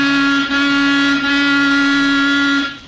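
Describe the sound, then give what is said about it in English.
A car horn blares in one long, loud, steady honk lasting nearly three seconds, briefly wavering twice before cutting off. No one speaks. “Honk the horn again.”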